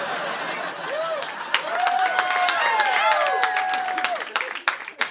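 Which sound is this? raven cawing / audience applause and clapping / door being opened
audience applause and clapping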